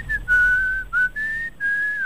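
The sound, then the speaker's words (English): A man whistles a slow, sustained melody in a breathy, airy tone recreating the sound of a musician's pan flute, with several long held notes separated by brief breaths, clear with no talking. “You will believe a man can whistle.”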